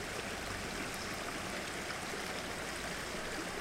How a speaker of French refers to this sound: L'eau, tu vois, la rivière, c'est des moments de recueillement, t'es en osmose complètement, tu vois, t'as le bruit de l'eau, t'as pas d'autre bruit que l'eau. Vraiment, tu te déconnectes complètement, quoi, tu vois.